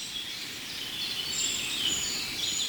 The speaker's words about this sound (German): Ist es zu hören, so ein ganz hohes Zieh im Hintergrund? Was ist das? Das klingt ja fast Goldhähnchen-ähnlich. Aber ich glaube, es sind keine Goldhähnchen.